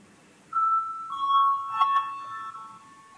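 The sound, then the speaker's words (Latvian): A parliament voting bell signal sounds before a vote on a Cabinet of Ministers proposal, as a steady electronic ringing tone lasting about two seconds, with slightly shifting pitch, moderately loud and alone without any talking. “Zvanu balsosim par 55. Ministra kabineta priekšlikumu.”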